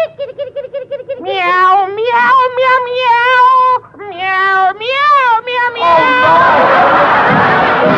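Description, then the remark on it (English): A kitten lets out a series of loud, drawn-out meows, one after another, as it is put out of the house, before a wash of noisy crowd-like bustle takes over at the end. “And while I'm about it, I'll put my little kitten out.”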